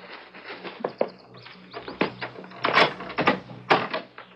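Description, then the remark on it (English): An extra key jiggles and clicks in a front-door lock, followed by a few rattling clunks as the front door is unlatched and pushed open, with no voices. “I had an extra key to the front door made over at Concord.”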